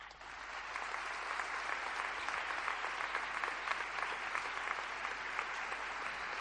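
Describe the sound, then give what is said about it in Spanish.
Sustained applause from a large crowd giving a prolonged ovation to the archbishop of Granada, a dense steady roar of clapping that holds at full strength throughout without fading, with no voices rising above it. “Una prolongada ovación para el señor arzobispo de Granada, que incluso él tuvo que interrumpir porque se dilataba bastante en el tiempo.”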